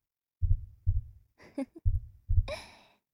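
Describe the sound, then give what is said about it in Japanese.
A deep, fast heartbeat thumps in two lub-dub pairs, separated by soft breathy sighs. There is no talking, just muffled beats and exhalations. “緊張しているのかしら。心臓のこと、とても早いわ。ドクドク、脈動しているのが私にも伝わってくる。”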